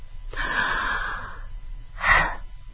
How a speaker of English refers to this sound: When I'm not chill, am I breathing? No, I'm holding my breath. Chill. And breathe.